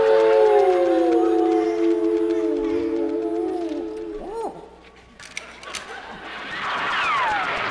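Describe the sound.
Several coyotes howl together in long, wavering overlapping calls, followed by a few short rising-and-falling yips and a final high, sliding howl, fairly loud throughout.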